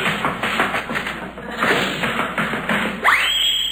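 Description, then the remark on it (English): A clattering crash after a slide down a banister: a rapid jumble of thumps and bangs, then a rising whistling sweep near the end. No one speaks. “I'll slide down the banister and then they won't hear me.”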